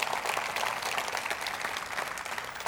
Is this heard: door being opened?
no